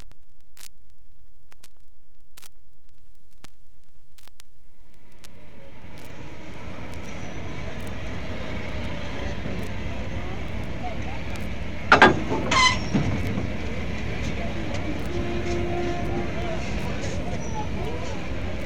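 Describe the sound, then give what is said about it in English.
The steam locomotive Flying Scotsman, the unstreamlined Gresley Pacific number 60103 owned by Alan Pegler, running: a few faint ticks in near silence, then a steady, loud rushing rumble swells in and carries on, with a brief sharper burst partway through. “Here is Alan Pegler and his pet steam locomotive.”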